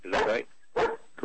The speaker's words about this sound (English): Pardon my dog. Shut up.